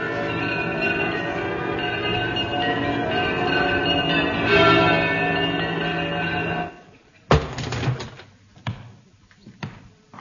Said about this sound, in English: Them bells.